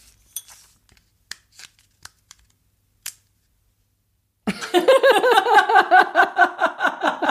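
A pull tab snaps off plastic packaging: a few sharp, scattered clicks and crackles over about three seconds, then a pause before a loud, warbling, sustained sound takes over.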